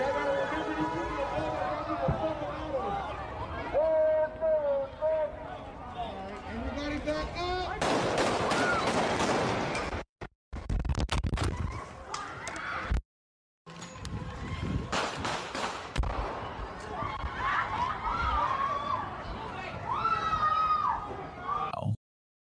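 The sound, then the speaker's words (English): Bursts of gunfire crackle through a street protest, rapid sharp shots in clusters amid shouting crowd noise and babble, loud and chaotic with brief pauses between volleys. “Right, and you just heard gunshots opening up in one of the big protests today.”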